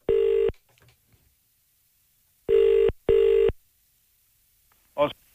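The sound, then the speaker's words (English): Loud electronic telephone tones from numbers being punched into a keypad, then a ringing signal in steady bursts: one, a pause, then a quick double pulse, followed by a brief voice at the end. The call is placed by presenter Ray Foley from the Today FM radio studio in Dublin. “Ray's punching in the numbers for all sorts of sweets. It's ringing.”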